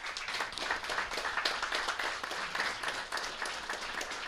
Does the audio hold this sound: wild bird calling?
no